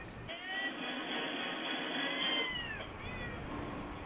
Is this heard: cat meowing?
yes